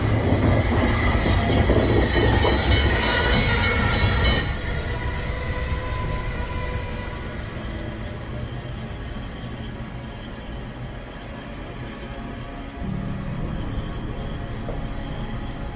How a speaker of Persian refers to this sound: رفیق، قطار داره میاد.